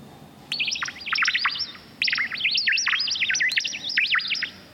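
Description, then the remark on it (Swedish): Synthetic bird chirps trill and warble in two quick, busy bursts separated by a brief pause, fairly loud, over a faint background hum with no talking; sounds made by a hospital's own composer for a hospital in Ängelholm, chirping when people arrive. “Här är de syntetiska fåglarna. Som blir glada när man kommer.”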